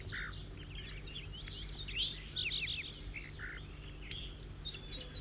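bird flight calls

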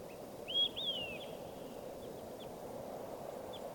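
bird calls

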